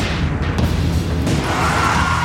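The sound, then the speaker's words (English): Sharp gunfire cracks ring out over a loud, dense wash of chaotic noise, a few distinct shots punctuating the steady roar. Intense, with no talking. “You hear crack, crack, crack, gunfire.”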